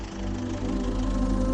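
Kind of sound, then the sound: vehicle, tractor engine running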